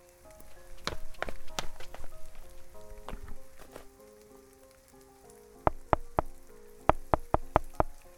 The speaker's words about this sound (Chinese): 外面的雨下得好大